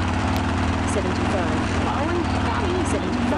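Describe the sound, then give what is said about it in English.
A racing video game car engine, revved with the control key, drones loudly and continuously, its pitch swelling and sweeping upward in a few places as it revs, over a steady mechanical hum with no pauses. “And now, I can use the control key to rev up the engine and start moving.”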